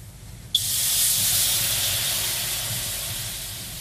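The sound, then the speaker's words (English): Water splashes onto hot sauna rocks, setting off a sudden, loud burst of steam that hisses steadily and slowly fades, with a low rumble underneath and no voices. “That deep, piney heat, water hitting hot rocks, filling the room with steam.”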